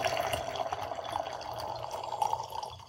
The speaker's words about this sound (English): And then we'll go ahead and put the aerator in. We'll let it breathe a little bit. We'll put the aerator in. And then we'll give it a little pour and then let it sit in the glass for a few moments. And there we go.